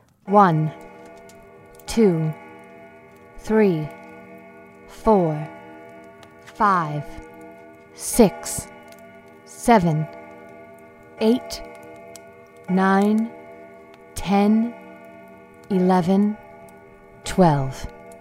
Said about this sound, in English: Right as their eyes finally closed, the grandfather clock in their home began to chime.